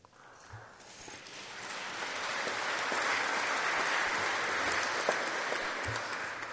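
Audience applause swells from a light patter into steady, sustained clapping from a crowd, holding fairly loud for several seconds with no voices over it.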